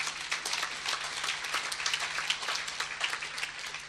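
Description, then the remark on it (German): A church audience applauds its pastor steadily, many hands clapping in a dense, continuous patter that stays fairly even in loudness throughout, with no voices standing out. “Können ruhig einen Applaus geben.”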